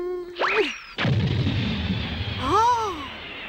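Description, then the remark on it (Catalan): A rising whistle precedes a sudden loud blast as a thrown colored capsule explodes into a cloud of dust, its rumbling boom decaying over a couple of seconds before a few wavering electronic tones sound. “El núvol de pols de l'explosió es difumina.”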